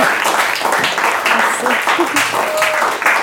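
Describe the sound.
An audience applauds steadily, a dense wash of many hands clapping at fairly close range, with faint voices and a few cheers mixed into the sustained noise.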